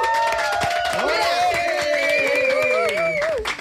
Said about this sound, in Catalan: I hem omplert l'estudi de Catalunya Ràdio de gent. A veure, podeu fer una mica de soroll, sisplau?